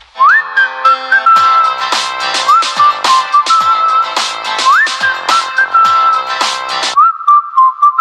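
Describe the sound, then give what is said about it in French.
A loud, high-pitched whistling tone from a man's ringing ears, heard through a telephone held to his ear, holds steady with occasional upward slides, while sharp whooshing bursts repeat throughout. Nobody speaks. “moi j'ai les oreilles qui sifflent, c'est assez insupportable”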